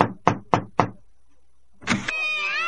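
Four firm, evenly spaced knocks on the wooden front door of a house at nightfall ring out, followed after a short pause by a brief rattle and a long, whining creak as the door swings open.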